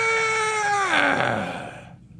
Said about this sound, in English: Squeak, squeak, squeak, squeak, squeak. It's like, you got these gray tail grackles that are making racket from dawn till dusk.